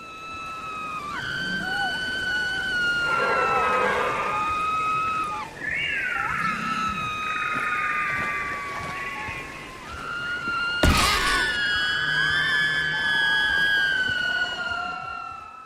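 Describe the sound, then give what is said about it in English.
A video game creature with four long necks and four heads shrieks in panicked, high-pitched wails as it runs away in fear. The cries are loud and stretch on almost without pause, briefly broken by a sharp thud partway through. “Like, it is running for its life in fear, and it's screaming bloody murder.”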